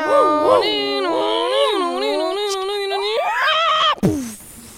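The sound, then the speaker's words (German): A voice imitates a racing car engine with a loud, buzzing drone that rises and dips in pitch for about four seconds, then cuts off with a quick downward slide. “Und im Hintergrund hören Sie schon die Motoren.”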